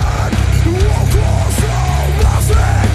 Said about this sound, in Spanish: Hardcore metalizado. Ese que tanto nos gusta.